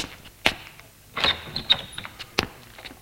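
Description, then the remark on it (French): A grandfather opens his front door at his apartment building for a child who rang: a sharp latch click, then a short high squeak of the hinge, a few soft knocks, and a final firm clack, with no voices. “Le grand-père lui ouvre.”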